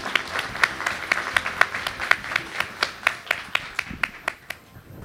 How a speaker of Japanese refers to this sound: 皆様どうぞ大きな拍手でお迎えください。